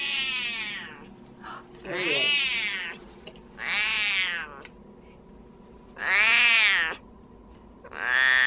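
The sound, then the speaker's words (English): A male Siamese cat in a kennel at an animal shelter meows loudly and insistently, about five long, drawn-out yowls, each roughly a second long with short pauses between, over a low background hum. “What a different sound, right? That's Siamese for you.”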